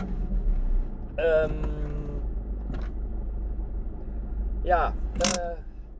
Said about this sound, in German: Ich fahre jetzt das Auto wieder zurück